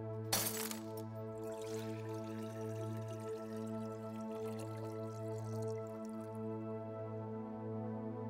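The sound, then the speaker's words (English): A glass bottle of expensive perfume smashes in one sharp burst near the start, followed by faint pouring and dripping as the perfume is poured over a man's head, running down his arms and legs and pooling at his feet, over a steady, low droning hum. No one speaks. “She broke the bottle and poured it out on his head. It ran down his arms and legs until it pooled at his feet.”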